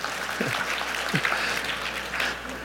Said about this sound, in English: I had to ask for applause, man, so far.